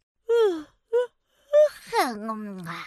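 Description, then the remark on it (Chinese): A voice acts out a big yawn for a big fat cat in a children's story: a few short voiced breaths, then a long, drawn-out groaning exhale sliding downward in pitch, fairly loud. “大肥猫阿发打了个大哈欠。”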